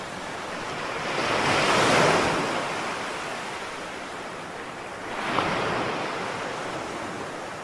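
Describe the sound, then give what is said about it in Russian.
Ocean waves surge and recede in broad washes of surf, one swell cresting early and another rolling in later, with a steady roar of water and wind between them and no voices. “И там, в окружении океанских волн, они впервые вместе прославили Его.”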